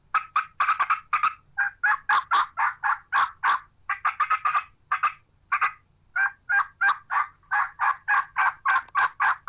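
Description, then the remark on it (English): A wild turkey call mimics an agitated hen, cutting with rapid, sharp clucks and excited yelps in quick, uneven bursts, loud, with no talking. “she's aggravated. There's another hen that's challenged her, or she's challenging another hen. She's going to cut an excited yelp.”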